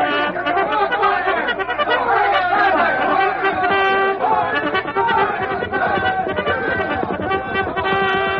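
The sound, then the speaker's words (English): A panicked crowd of settlers clamors loudly, many overlapping voices shouting and calling at once in a dense, continuous commotion that stays intense throughout, as the settlers abandon their belongings and crowd within the walls of a fort. “While the troopers, summoned by the call to arms, tumble out of their barracks, the panic-stricken settlers abandon their belongings to crowd within the walls of the fort.”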